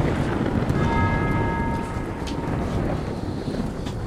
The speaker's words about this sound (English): Is that the … bell? Sounds like it.